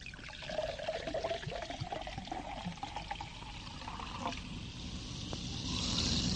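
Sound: beer being poured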